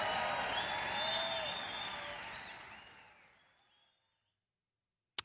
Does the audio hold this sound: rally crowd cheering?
yes